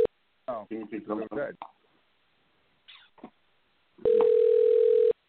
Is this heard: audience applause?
no